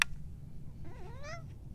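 A cat named Pippa, freaking out right outside the door, lets out a single drawn-out meow, rising then falling in pitch, over a steady low rumble. It sounds a little muffled, as if coming from just beyond the door.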